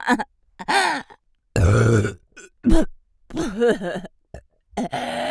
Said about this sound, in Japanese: ゲップ止まらないんですけど